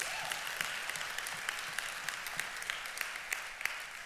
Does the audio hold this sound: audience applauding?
yes